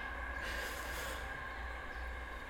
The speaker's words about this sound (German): Aber, jetzt kommt wieder ein lauter Zug. Ja, das ist jetzt aber schon ganz schön laut.